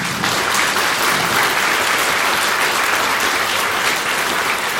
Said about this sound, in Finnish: Voimme antaa varmasti lämpimät aplodit luennoitsijalle.